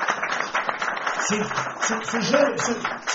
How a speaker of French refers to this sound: C'est pour cela que j'ai fait venir ici, je vous demande d'applaudir encore ce garçon.